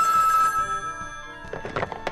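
A telephone rings with a bright, sustained electronic tone, followed by a few quick clattering bursts near the end, with no talking; the call is answered by Graham Bell.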